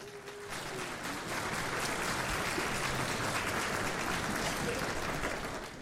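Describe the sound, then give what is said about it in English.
A crowd claps steadily in a dense, sustained round of applause lasting several seconds, loud and even throughout, with a faint murmur of voices underneath. “Love it. Round of applause.”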